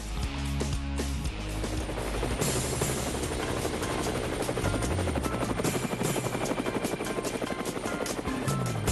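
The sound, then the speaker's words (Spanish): A helicopter's rotor thumps in a steady, rapid chop, loud, with a dense engine roar filling the background throughout, for the virtual trip segment of the TV show Levántate Cuba. No one speaks. “Bueno, llegó uno de los momentos más esperados de Levántate Cuba y me refiero al helicóptero que nos lleva al viaje virtual.”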